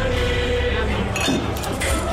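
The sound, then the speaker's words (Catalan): Limited-edition Estrella Damm glass beer bottles, made for the 125th anniversary of FC Barcelona, clink together in a few quick, bright knocks over a steady low background murmur. “Així és com sonen les ampolles d'edició limitada d'Estrella Damm pel 125è aniversari del Futbol Club Barcelona.”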